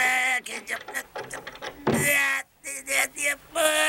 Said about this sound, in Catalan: Què li passa, senyor? Per què tanca la porta? Què dius? S'ha obert la porta i després